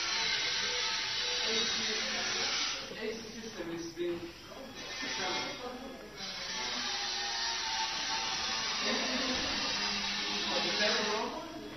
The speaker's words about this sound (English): Oh, air conditioning.